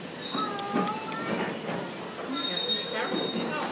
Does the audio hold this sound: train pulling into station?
yes